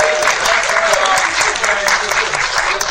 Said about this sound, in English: Please give them both a round of applause.